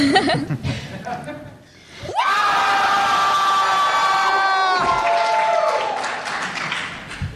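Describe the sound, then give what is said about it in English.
A large audience lets out a loud, sustained burst of yelling and cheering lasting several seconds, preceded by scattered chuckles and murmuring, then gradually tapering off. “Should we yell at the next salon one more time?”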